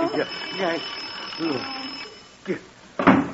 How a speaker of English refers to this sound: that was just the alarm on your clock. It happened to go off.